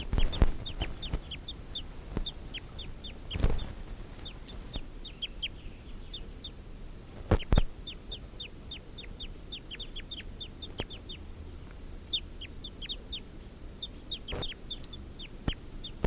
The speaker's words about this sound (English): Wild males giving a clucking call. Stop. These are the calls of that one wild male.